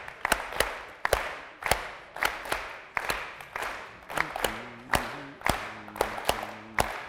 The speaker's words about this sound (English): It's a rhythm of 7. Clap with me. Not so fast. No, no.